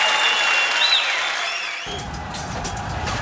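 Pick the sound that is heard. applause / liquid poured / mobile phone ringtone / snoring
applause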